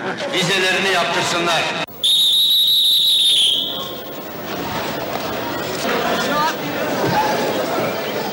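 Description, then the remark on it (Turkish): A busy crowd on platform 11 of a railway station murmurs and chatters, then a loud, piercing whistle blasts for over a second before the hubbub of voices resumes around it. “11. Peron.”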